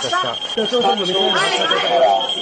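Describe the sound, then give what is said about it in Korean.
A steady, high-pitched electronic alert tone sounds continuously at moderate volume from a real-time breaking-news terminal in a broadcaster's newsroom in Tokyo, Japan, on 7 February, alerting to a North Korean long-range missile launch, while voices talk loudly over it. “지난 2월 7일 일본 도쿄에 위치한 한 방송사 보도국 실시간 속보를 전해주는 단말기에서 경보음이 울립니다.”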